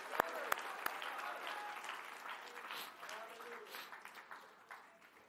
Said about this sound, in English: Let's seal it like with a clap or something. Come on. Let's seal that with a clap.